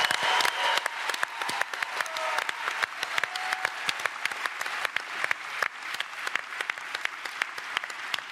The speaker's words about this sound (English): Guys, these are some brave students, so let's give them a round of applause for our 3 Imagine Cup contenders.